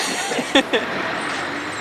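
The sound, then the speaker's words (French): A refrigerated truck rumbles with a steady, broad engine and road noise, broken by two short, squealing tonal bursts in quick succession, like brakes. No one speaks. “Transport frigorifique.”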